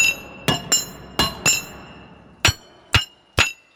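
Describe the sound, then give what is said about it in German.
Metallic clattering among rocks inside a mountain: seven sharp, ringing clanks, first in quick uneven pairs, then three slower single strikes, fairly loud, with no voices. “Ein aufgeregter Tatok scheppert da im Gefels herum.”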